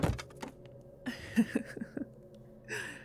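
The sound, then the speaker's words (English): Several dull, heavy thuds strike a thick wooden dungeon door in an uneven burst, moderately loud, as people trapped inside bang on it, followed by a short breathy rush of noise. “Banging on the dungeon door like it's going to do anything.”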